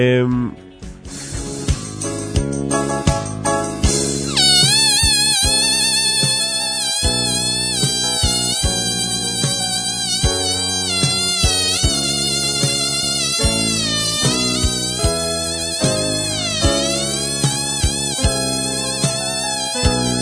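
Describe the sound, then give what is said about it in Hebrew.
A balloon, inflated to be played for musical sounds, squeals as air is let out through its stretched neck, producing loud, continuous high-pitched whining tones that waver and slide up and down in pitch, after some initial rubbing and hissing. “באופן מנפח בלונים בשביל לנגן, להוציא מהם צלילים.”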